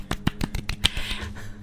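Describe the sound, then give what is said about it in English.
A polite golf clap: about half a dozen light, crisp hand claps in a quick, slightly uneven rhythm, then a soft hiss as the clapping fades. No voices. “Gamma quadrant golf clap.”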